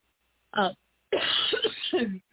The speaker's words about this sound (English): Sorry, I just cough. Like I said, it comes out of nowhere and I have no warning and all of a sudden I'm just coughing.